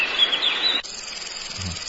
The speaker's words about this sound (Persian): حالا صدای شنونده محترم صدای ملخ داره برای شما پخش میشه. خب یه 5 ثانیه سکوت کنیم بشنون.